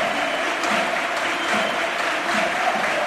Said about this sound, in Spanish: Bueno, pues el adiós de Julen Lopetegui. Ahí está devolviendo el aplauso, le está ofreciendo la grada. Hay de todo, es una noche, como ya intuíamos, una noche de locura.